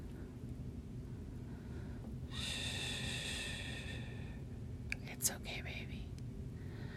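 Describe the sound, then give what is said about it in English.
A single slow, drawn-out breath close to the microphone, a soft airy hiss lasting about two seconds over a low steady hum, followed by a few faint mouth clicks. “Listen to my breathing. Match my breaths.”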